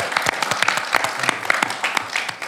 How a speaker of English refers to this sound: Can we have a warm round of applause?